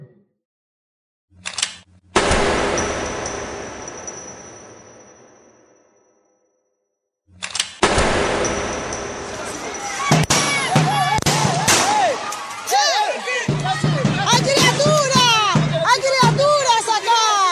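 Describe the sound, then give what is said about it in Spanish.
Two loud gunshot bangs from rubber-bullet shots ring out several seconds apart, each with a long echoing decay, followed by children screaming and crying in distress. “No terminé de decir delen, córranse. Y empezaron los disparos.”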